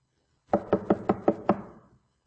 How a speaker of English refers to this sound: Jesus is knocking at the door.